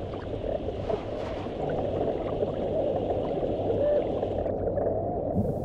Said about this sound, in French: Un mérou hurle des menaces. Des micros immergés rendent les sons audibles.